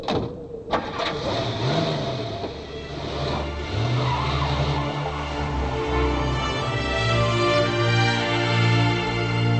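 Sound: police car speeding away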